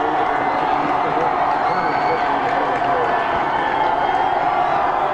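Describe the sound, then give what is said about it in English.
A large football stadium crowd cheers in a steady, loud roar as fireworks are set off, holding for the whole stretch, a dense wash of many voices with no single voice standing out. “Makes it harder to send in signals, though, when everyone's excited like this.”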